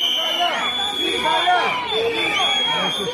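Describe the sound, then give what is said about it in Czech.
A dense crowd of protesting citizens and activists in Serbia, calling on members of parliament to vote against changes to the land expropriation law, fills the scene with overlapping shouts and chanting voices, while a shrill whistle holds a steady piercing note above the din throughout. “Uz pištaljke i skandiranje, građani i aktivisti više lokalnih pokreta pozvali su narodne poslanike da glasaju protiv predloga izmjena zakona o eksproprijaciji zemljišta.”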